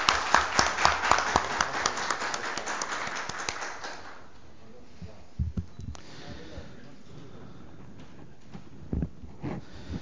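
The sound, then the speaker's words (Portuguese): A burst of applause at a Câmara session honoring those who carried out a search, many hands clapping densely and loudly for about four seconds before it stops abruptly, leaving quiet background with a few scattered thumps. “Então, uma moção de aplauso para aqueles também que não puderam comparecer.”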